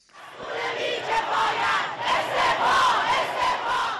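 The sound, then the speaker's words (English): A large crowd of protesters in Iran chants and shouts in unison at anti-government protests that grew out of vigils for the victims of a Ukrainian passenger plane shot down by the Islamic Revolutionary Guards Corps air defense: a dense, loud roar of many voices with rising, wavering cries carried steadily throughout. “A night of vigils for the victims of a Ukrainian passenger airline mistakenly shot down by the Islamic Revolutionary Guards Corps air defense erupted into anti-government protests in cities across Iran.”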